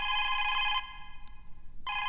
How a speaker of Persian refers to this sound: صدای تلفن است بچه، خودت جواب بده.